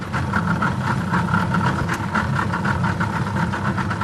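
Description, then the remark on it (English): A heavy engine slows down, its low rumble settling into a steady rhythmic idle with a regular throbbing pulse and no voices over it. “So the engine now is slowing down, and so that is a very interesting and important pieces of information that we must all learn”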